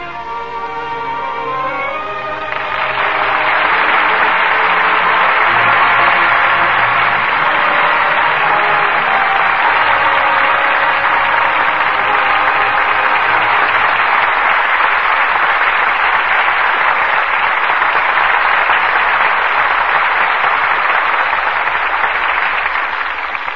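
Sustained audience applause for performances by Joseph Cotten and Ida Lupino swells up quickly after a brief musical opening and continues steadily and loudly, a dense wash of many hands clapping with no voices over it.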